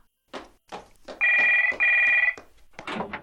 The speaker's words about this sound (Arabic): وقبل أن ينام سمع جرس التليفون يرن. خرج من غرفته بسرعة ورفع السماعة.